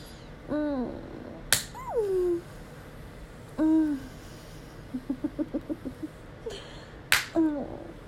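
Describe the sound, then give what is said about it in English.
Two sharp slaps of a hand against skin as the speaker slaps her own genitals, spaced several seconds apart, among low hooting vocal sounds and a quick run of soft pulsing tones. “Oh, but I slap my pussy as well.”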